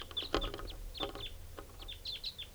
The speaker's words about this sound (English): Recording more wild birds coming in at 6:41. Different birds.